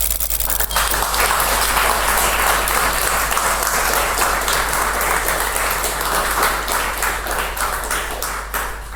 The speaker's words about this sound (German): Ja, vielen Dank. Das war dein Applaus.